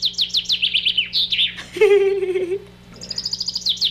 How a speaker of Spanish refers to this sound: Ahí les va mis pájaros. Ahí está el pájaro, y así le hacen. Escuchemos a los pajaritos.